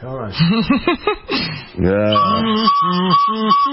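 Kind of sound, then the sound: kazoo being blown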